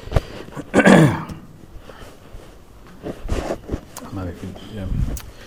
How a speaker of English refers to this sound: Could somebody get me a glass of water? I've still got this damn cough. 3 months now.